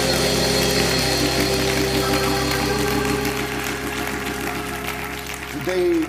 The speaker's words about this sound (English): Why don't you join me this morning in giving our young adults a round of applause.